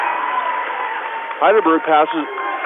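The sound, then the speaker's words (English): A basketball crowd at a game between Hoonah and Heidelberg in Juneau, Alaska cheers in a steady, dense roar, and partway through a burst of louder voiced shouting or chanting, the Hoonah chant, rises over the din before it settles back. “As the crowd goes wild,”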